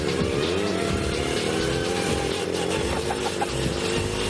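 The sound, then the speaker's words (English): A small motor scooter engine runs steadily and loudly as a team rides it in a timed race up a hill, a buzzy droning hum with slight wavering in pitch, and no voices. “Making a lot of noise. It's making the right sort of sound. It sounds like it's going along.”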